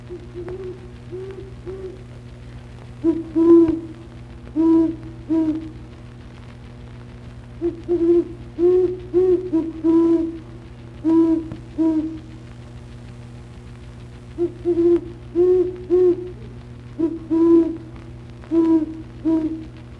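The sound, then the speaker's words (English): Low, soft owl hoots in repeated short groups of four to six, spaced by pauses, over a steady low hum; a great horned owl's hoot series. “The typical hoot series of the great horned owl is a somewhat variable, low-pitched hoo-hoo-hoo, hoo-hoo, or hoo-hoo, hoo-hoo.”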